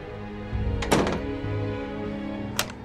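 A bedroom door swings shut with a solid, low thunk, followed a moment later by a single sharper knock. No one speaks over a quiet background hum.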